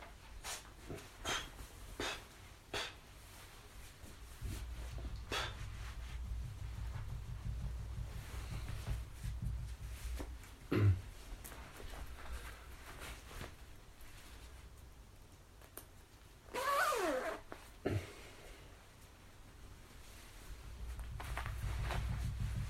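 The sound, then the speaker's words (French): A zipper rasps open or shut in one short burst as a morning radio presenter gets ready to go outside at 7:30, set among scattered clicks and knocks over a steady low rumbling background. No one speaks. “J'espère que vous avez bien entendu la fermeture éclair.”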